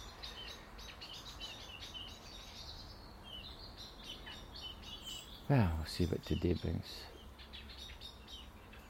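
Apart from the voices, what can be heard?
blackbird singing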